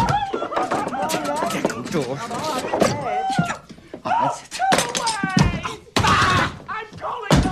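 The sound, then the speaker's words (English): Several heavy thumps and bangs of a door being slammed and pounded as people try to get it opened break through loud amid frantic, overlapping shouting voices. “Open the door! I'm trying, but he's so crazy.”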